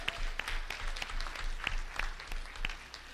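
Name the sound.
audience applause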